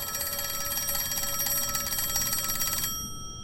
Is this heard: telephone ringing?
yes